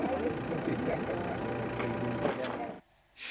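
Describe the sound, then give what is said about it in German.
An old Mercedes car engine idles with a steady, rumbling low drone, holding evenly for about three seconds before abruptly dropping away near the end. “Der alte Daimler läuft und läuft und läuft, egal wie er aussieht.”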